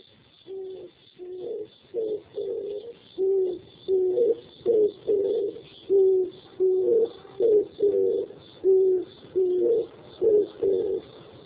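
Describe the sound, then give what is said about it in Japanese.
A tape recording of an oriental turtle dove cooing in a steady series of low, hooting phrases, each a soft repeated cluster of notes with brief pauses between, continuing without any talk. “それで、キジバトのテープがありますので、ちょっと聞いてください。”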